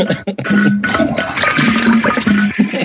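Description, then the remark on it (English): A toilet flushes in a loud rush of gurgling, swirling water that fills the whole clip, with a brief dip near the start and low tonal hums from the draining bowl. “Sorry, I'm a double flusher.”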